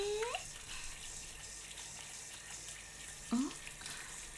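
Shower water runs in a steady, even hiss throughout, close and continuous, with two brief rising vocal sounds breaking in near the start and again toward the end.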